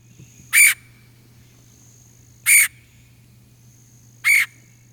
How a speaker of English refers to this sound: So that's a red-headed woodpecker, which is different than the red-bellied woodpecker.